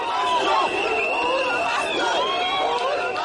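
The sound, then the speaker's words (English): Supporters of Odinga cheer in the streets of Kenya after the Supreme Court ruling nullifying the presidential election, a dense outdoor crowd with many voices overlapping in a loud, steady roar and high whoops and calls rising above the din. “Supporters of Odinga poured into the streets, cheering and waiting for another chance to elect their candidate.”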